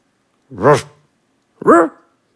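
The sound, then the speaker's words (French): A dog left alone in a dark, empty apartment gives two short, soft barks about a second apart, each a brief muffled woof with nothing else around it. “Il aboie doucement pour se donner du courage.”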